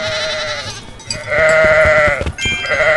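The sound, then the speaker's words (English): A sheep bleats loudly in a few wavering, nasal calls, with a quieter bleat first and then two stronger ones in quick succession. No one speaks. “Get the sheep.”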